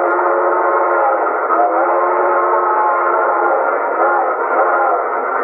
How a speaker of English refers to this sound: the train blew for a water stop 3 miles ahead.